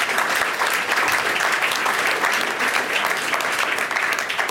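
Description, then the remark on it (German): A live audience claps steadily and loudly for several seconds in applause for the city of Mannheim, a dense, continuous wash of many hands with no pauses and no voices standing out. “An dieser Stelle Applaus für Mannheim.”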